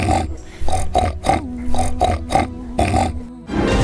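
A pig grunts and oinks in a quick series of about eight short bursts over a steady humming tone, ending in a rush of rougher noise.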